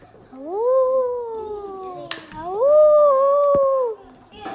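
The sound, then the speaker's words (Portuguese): Two long, drawn-out wolf howls follow one another, each swelling upward and then sliding slowly down in pitch, fairly loud with a brief gap between them. “O lobo. O uvea.”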